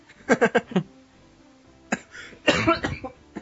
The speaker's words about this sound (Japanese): 咳込んでる。